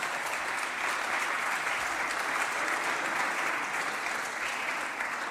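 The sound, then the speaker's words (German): Sustained spontaneous applause from a conference audience, a dense steady patter of many hands clapping at even loudness for several seconds with no voices standing out. “Spontaner Applaus ist was Rares aus einer Fachkonferenz.”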